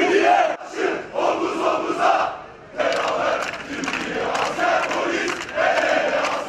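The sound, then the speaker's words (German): A large crowd of football fans of Beşiktaş, Galatasaray, Fenerbahçe and Trabzonspor, standing shoulder to shoulder where two bombs exploded the previous Saturday, chants loudly in unison against terror, voices rising and falling in a steady rhythmic pattern, with a brief pause before the chanting surges back. “Schulter an Schulter stehen Fans von Beşiktaş, Galatasaray, Fenerbahçe und Trabzonspor an jenem Ort, wo am vergangenen Samstag 2 Bomben explodierten.”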